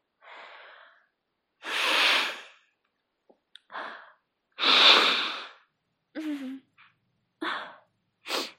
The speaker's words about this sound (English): Press the hanky a little bit deeper into my nostrils, baby. Mommy needs to blow her nose again, okay?